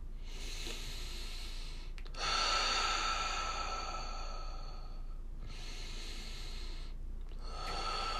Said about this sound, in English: So take a couple deep breaths, inhaling through your nose, out through your mouth.